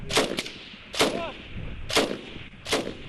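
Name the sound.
gunfire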